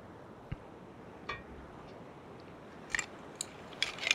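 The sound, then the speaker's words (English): A water glass being handled: a few soft, irregular knocks and small bright clinks, growing slightly busier toward the end, over a quiet background hiss with no talking. “Yeah, it's my water glass.”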